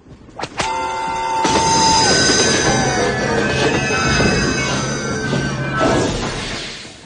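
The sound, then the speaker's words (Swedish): A train brakes hard, with loud, sustained metallic squealing tones that bend and waver over a rumbling clatter, then fade out as it comes to a stop. “Det är nog dags att stoppa tåget.”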